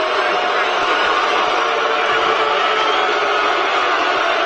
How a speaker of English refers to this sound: There's the booing.